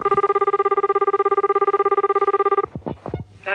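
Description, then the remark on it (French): A telephone rings in Francis Blanche's late-1950s prank-call comedy sketch L'Ouvre-boîte, a single long, rapidly trilling burst for over two seconds, loud and steady, then stops abruptly, followed by a few brief sweeping sounds. “Francis Blanche dans L'Ouvre-boîte, donc c'est un canular téléphonique de la fin des années 50.”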